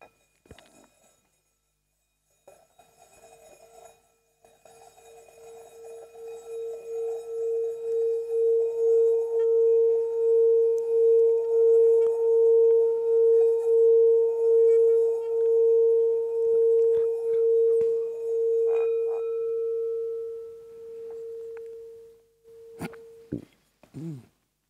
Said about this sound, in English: Now I'm going to ring the gong, rather just let it chime.